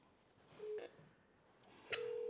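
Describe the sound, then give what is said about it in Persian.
Phone-line call tones as a call to a program's phone line is placed again after being cut off: a short electronic beep and a click, then a steady, fairly loud ringing-style tone that begins near the end and continues, with faint line hiss throughout and no talking. “دوباره تماس گرفتیم.”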